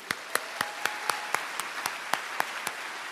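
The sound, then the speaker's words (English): An audience in Seattle gives a round of applause for the public radio station KEXP, with a steady, evenly spaced run of sharp claps, about four per second, standing out over a continuous hiss of scattered clapping. No one speaks. “So if you'll indulge me, can we have a round of applause for our friends at KEXP?”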